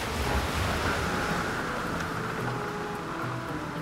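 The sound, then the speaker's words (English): Rough sea waves crash and churn continuously while strong wind roars across the microphone, a loud, dense wash of stormy noise with no voices. “But the storm comes and the boat is lost.”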